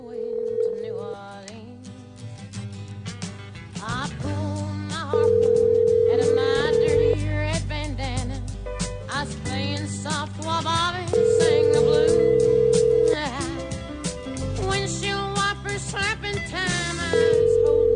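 A phone line rings out on an outgoing call placed by the Drew and Mike show: steady two-second ringback tones repeating about every six seconds, clearly audible over continuous background music.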